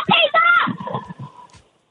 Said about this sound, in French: Vous avez pas entendu? Ouais, nous entend crier, mais on sait pas s'ils sont tombés. On les entend crier, mais on les a mal entendus tomber. Ils sont dans la piscine, là.